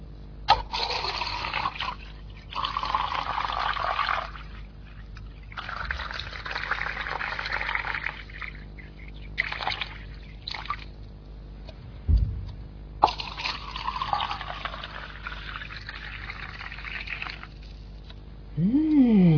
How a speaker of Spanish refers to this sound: Finalmente era el agua. El agua. También, cuando lo oigáis, estos sonidos, podéis beber agua. Tomar contacto con el agua.